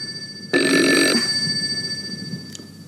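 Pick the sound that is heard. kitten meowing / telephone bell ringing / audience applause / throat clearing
telephone bell ringing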